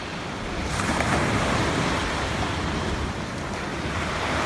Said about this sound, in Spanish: Y esto es lo que nos llega, fíjate, el silencio y cómo rompen las olas del mar.